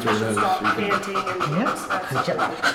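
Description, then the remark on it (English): A female dog in training, being graded by her trainers, breathes in quick, steady pants, each breath a short rushing puff in a fast, even rhythm, with some voice-like tones running underneath. “You can hear the difference in her breathing pattern.”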